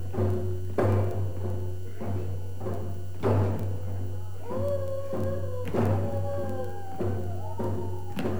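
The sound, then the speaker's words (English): Several people howl in long, wavering, overlapping tones, all acting out the wolf. Steady thumping drum beats from drumming and a constant low hum run underneath. “So we're all acting out the wolf in this part.”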